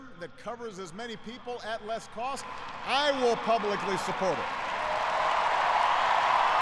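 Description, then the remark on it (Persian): Barack Obama speaks about health insurance at a podium-like cadence, then a crowd's applause swells in as a dense, steady wash of clapping that grows louder and continues to the end. “و بازم روی از این که از این بیمه صحی حمایت شود تاکید کردند و مردم هم تشویق زیاد میکنند در این قسمت.”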